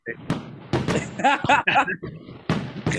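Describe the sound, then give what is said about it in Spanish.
Several sharp, booming firework bangs go off in quick succession, fairly loud, with voices speaking between the blasts. “Ah, eso es un fuego artificial, yo pensé que se había caído.”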